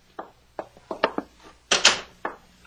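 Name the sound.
door opening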